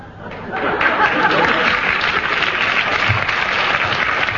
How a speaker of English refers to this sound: I don't know whether the applause was for Peter Jones's remark or for who they thought it was intended for.